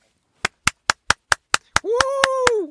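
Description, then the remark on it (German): Sharp, evenly spaced hand claps, about ten in a steady rhythm, loud and crisp; partway through, a voice joins with a sustained, wavering vocal tone while the clapping continues. “Du hast vergessen, dir die Nase zuzuhalten bei deinem Applaus.”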